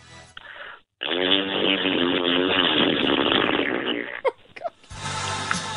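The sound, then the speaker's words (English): A person performs a dry fart with their mouth in a fart competition: a sustained, rough, buzzing blast lasting about three seconds after a brief lead-in, ending with a couple of short sputters before noise resumes. “I'm led to believe you're performing a fart out of your mouth as well.”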